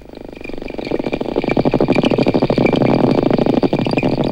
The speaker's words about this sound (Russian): Послушайте самых умных жителей океана. Дельфины издают три типа звуков. Свист, который им служит для переговоров, а скрежет и щелканье – звуки их локатора.